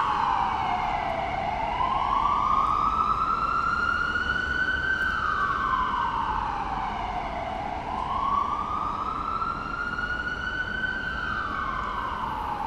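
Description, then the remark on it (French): A wailing emergency vehicle siren in the neighbourhood rises and falls in slow, sweeping cycles, loud and steady over a low rumble of street traffic, with no one speaking. “Les sirènes aussi sont assez présentes dans le quartier.”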